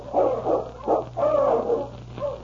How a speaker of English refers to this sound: The following day, Ulak had gone out to hunt when Sergeant Preston heard the sound of his dog team, which meant Keok's return.